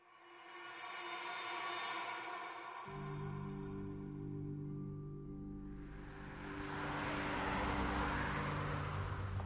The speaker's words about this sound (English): On April 26, 2002, 23-year-old Stephanie Bennett parked her car outside of her apartment complex in Raleigh, North Carolina.